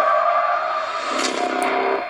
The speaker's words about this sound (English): Bus crashed. Mom, what bus crashed?